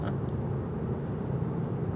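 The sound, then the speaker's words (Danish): A steady low rumble of road noise from inside a car being driven, constant and fairly loud with no voices. “Ja, jamen, jeg kører lige bil.”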